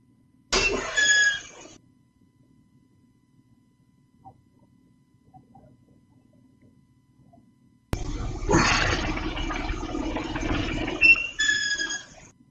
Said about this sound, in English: it's the pulley. He has his own, he kind of made his own pulley setups and stuff so he could work out